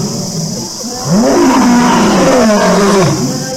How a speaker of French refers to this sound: Le lion, écoutant les paroles paniquées de Kamba, leva la tête vers le ciel et poussa un rugissement assourdissant qui fit trembler les arbres